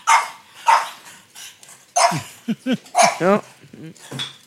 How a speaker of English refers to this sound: We have puppies in here that are... Rumble in the jungle here.